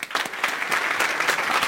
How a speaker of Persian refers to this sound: تشویقش کنین.